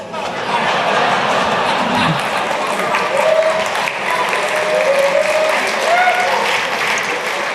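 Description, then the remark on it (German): Sustained applause from a large audience fills the whole stretch, a dense steady wash of clapping with a few faint whistles or cheers rising above it. “Also falls jetzt jemand von der Tagesschau zusieht, der Applaus, der war für euch.”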